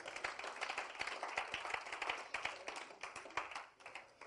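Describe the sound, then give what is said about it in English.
A church audience claps for the Lord Jesus in a dense, continuous wash of applause, with sharper individual claps popping out of the steady crackle. It holds at an even level throughout, with no voices. “Clap for the Lord Jesus.”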